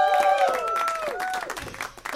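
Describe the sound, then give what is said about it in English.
A live audience at a Doug Loves Movies taping at Dynasty Typewriter in Los Angeles on Sunday, March 5, 2023 claps steadily while voices whoop and cheer over it, with a few high, sliding shouts standing out from the loud, continuous applause. “Sounds like somebody thinks they're at a Chiefs game.”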